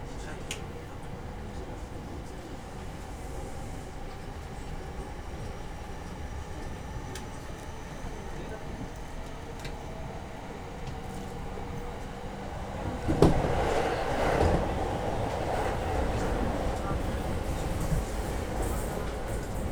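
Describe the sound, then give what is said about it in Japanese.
Steady low rumble of a commuter train running into Shinjuku Station, arriving at track 3, heard from inside the car. It swells louder with a brief clatter about two-thirds through; a faint voice may be present. The train turns back at Shinjuku as a Yokosuka Line through service toward Zushi. “この電車新宿駅から折り返し横須賀線直通逗子方面の電車として運転をいたします。”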